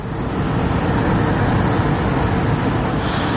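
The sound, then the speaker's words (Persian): A steady, dense rumble of idling car engines from cars queued to buy natural gas at a natural gas station in Uzbekistan at 4 a.m., holding at an even loudness throughout with no voices. “منه این نوبت ماشین ها برای خریدن گاز طبیعی است.”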